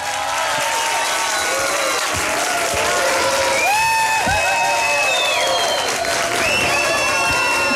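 Steady, loud audience applause fills the whole stretch, a dense wash of clapping mixed with crowd cheering, whoops and a few rising whistles.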